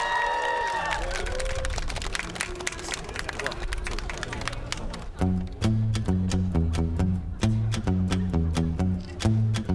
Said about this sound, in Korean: 자 그러면은 한번 여러분 박수 쳐주시면 하도록 하겠습니다.